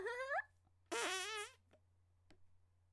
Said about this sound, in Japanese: その証拠にほら、もういくら踏ん張ってもおならしか出ません。